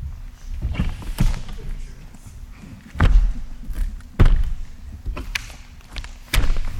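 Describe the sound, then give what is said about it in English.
A little chair is shifted and set down, making several dull wooden thumps and knocks at irregular intervals, with faint scraping between them. “No, I'm setting a little chair.”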